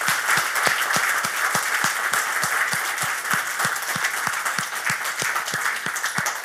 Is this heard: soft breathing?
no